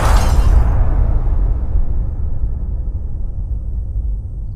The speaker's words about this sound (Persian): خواب میبینم گلوله از پیشونیت رد میشه و میخوره به قاب عکست روی دیوار. شیشه میشکنه